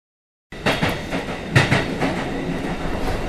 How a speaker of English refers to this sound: I go to school by train. The train I take every morning always has so many people that I can't sit.